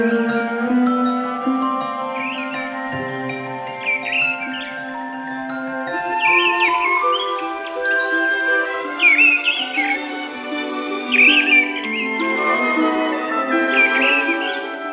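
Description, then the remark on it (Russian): Birds sing all around in a forest in late spring, with short, bright chirps and trills repeating every second or two over a steady, sustained tonal backdrop. No one speaks. “Птицы кругом распевают.”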